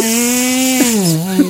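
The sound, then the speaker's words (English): A loud, sustained buzzing fart, raspy and engine-like, almost like a weed whacker revving, its pitch sagging and wobbling briefly before ending abruptly, with no one talking over it. “That sounded like a weed whack.”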